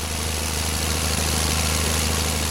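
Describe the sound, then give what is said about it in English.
An irrigation well pump near Copeland, Kansas, pumping 1,000 gallons a minute, runs without a break: a low mechanical hum with a constant throbbing rumble and a bright whine above it. No one speaks. “That's Jesse Garrettson, standing by one of his irrigation wells near Copeland, Kansas.”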